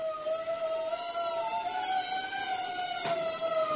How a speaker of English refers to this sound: When I first heard the wailing sirens, I thought, accident, fire. There's a man selfishly will in the middle of the night. I was glad it was none of my concern. But the sounds kept increasing and seemed to be headed straight for me.